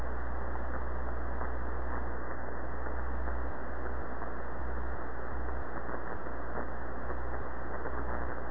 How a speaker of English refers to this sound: It's not hum. It's not hum. There might be the tiniest bit of hum. All it is your carrier. In other words, you're just so loud that I'm just hearing the carrier, and that's all there is to it.